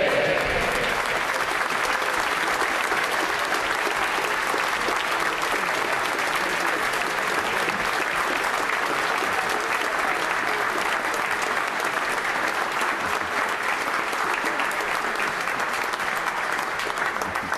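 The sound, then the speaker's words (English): Sustained applause from a large audience in a parliament session, just before questions to the Prime Minister: a dense steady patter of many hands clapping at an even, fairly loud level for the whole stretch, with no voices rising above it. “And that's the only reason I allow clapping.”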